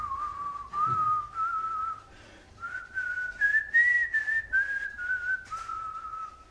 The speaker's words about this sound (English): Just whistled on my way out of the police station.